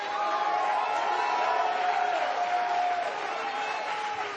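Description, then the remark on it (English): An audience shouts and cheers in response to a preacher's call to shout, in a steady, dense roar of mixed voices, with scattered whoops and a few sustained high yells rising above the din throughout. “Why are you shouting?”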